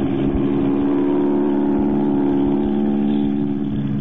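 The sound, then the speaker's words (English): An airplane engine roars through a takeoff run, a loud, steady droning hum with strong low harmonics and a faint rattling texture, holding even throughout with no voices. “They're starting their takeoff. You're taxiing right toward him.”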